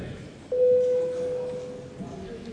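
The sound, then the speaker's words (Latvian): A parliamentary voting bell, rung to call deputies to vote on a proposal, sounds as one steady electronic tone, loud and lasting about a second, over a low background murmur of voices. “Lūdzu zvanu.”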